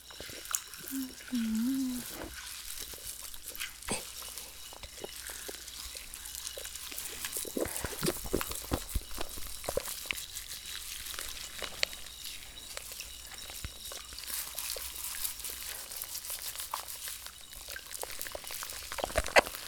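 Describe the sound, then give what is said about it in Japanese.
Carbonated shampoo fizzes and pops on a scalp, a dense, continuous crackle of tiny bursts for the whole stretch, with a brief low hum near the start. “頭の中で炭酸がパチパチ弾けて気持ちいいですね。”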